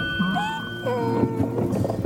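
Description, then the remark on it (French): A person's voice imitates a donkey's bray, with loud, drawn-out, strained tones that swoop up and down in pitch, repeating in uneven bursts over about two seconds. “Le vrai bruit de l'âne. Non, c'était quelqu'un qui l'a fait.”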